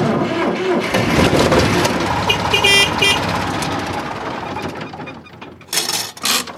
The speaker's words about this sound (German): Wir nehmen jetzt diesen Deutz D4506. Ja. Ich glaube, das rührt. Der treckert und der macht ein bisschen Abgase und da kann man das so dran tüdeln.